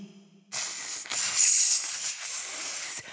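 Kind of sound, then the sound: animal, snake hissing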